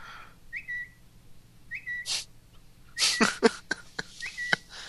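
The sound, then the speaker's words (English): A short, high bird-like chirp, the iOS 5 sound for tweeting, sounds three times, each a quick tweet, with sharp rustling and clicking bursts scattered between them and no talking. “You can also tweet from anywhere, and you get this little cute bird sounding sound. Yeah. You hear that?”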